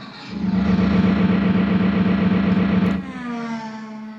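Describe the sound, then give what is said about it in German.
A car engine hums steadily and loudly for about three seconds as people drive to the lost-and-found office, then the pitch shifts and the note rises as the vehicle keeps driving. No one speaks. “Los, ins Wohnbüro, ab ins Auto.”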